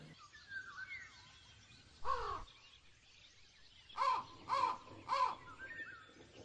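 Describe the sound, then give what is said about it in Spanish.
A crow caws once, then three more times in quick succession, loud, over a busy background of smaller birds chirping and twittering in a jungle. “En alguna parte de la selva se encontraban muchas aves que emitían particulares sonidos.”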